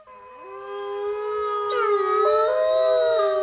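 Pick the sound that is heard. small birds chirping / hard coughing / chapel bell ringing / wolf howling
wolf howling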